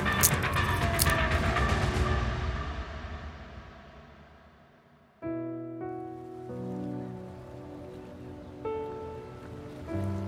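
Soft, steady wash of water lapping at a harbor edge, with a few splashy ripples early on, gradually fading out before a sustained melodic tone takes over.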